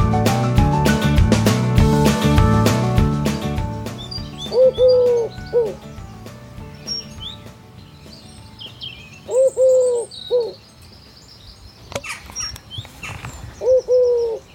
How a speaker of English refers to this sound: The beautiful bucolic sound of the wood pigeon. That is what woke me up this morning at 7:30 a.m.